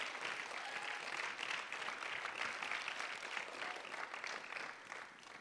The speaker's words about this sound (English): Any of you, could you raise your hand first of all to just show a sign of appreciation for the adults that have been here? And then can you guys just clap your hands in honor of them for the ones that have helped you this week?